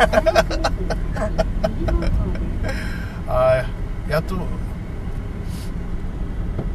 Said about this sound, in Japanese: やっと車通りが 抜けました ね。抜けましたね。